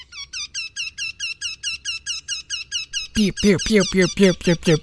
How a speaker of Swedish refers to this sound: Och så göktytan.